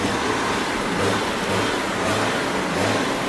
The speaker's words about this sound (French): Tracteur contre les grilles. Voilà, ils ont amené les tracteurs contre les grilles et ça accélère.